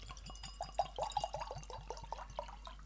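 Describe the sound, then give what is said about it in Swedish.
A blackcurrant drink glugs out of a bottle held in front of a microphone, in a quick, steady series of hollow pulses, about a dozen in three seconds, with no one talking. “Måtte jo ha den foran mikrofonen så vi fikk den klunkelyden.”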